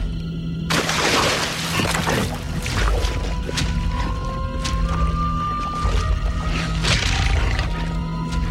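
At night, Carnotaurs drinking at a lake bed watering hole: wet sloshing and lapping bursts mix with low, rumbling animal growls and a thin drawn-out whine, all over a steady deep drone.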